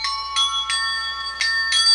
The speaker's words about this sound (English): And of course, so no one guesses it's a jet bicycle, we have installed an ordinary bicycle bell. My very own big boy two-wheel bike with a bell, too.